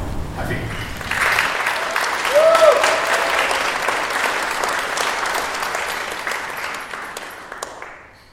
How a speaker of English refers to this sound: To the focus for this evening, to announce the winner of the Artist Money 10 Prize. So if you join me in applauding and celebrating the winner, who is Taloy.